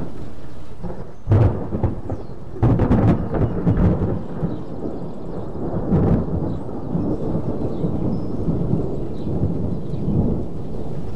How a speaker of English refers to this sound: Here in western Greene County, the birds are singing, the chickens are clucking, and in the distance, another storm is moving in.